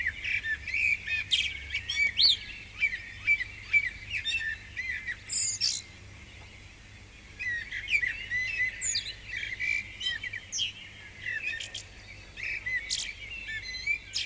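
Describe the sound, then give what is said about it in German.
Several birds sing and chirp continuously in a forest, overlapping bright trills and tweets, with a faint low rumble beneath and no talking. “Die Vögel singen mir davon, dass sie dankbar sind fürs Leben.”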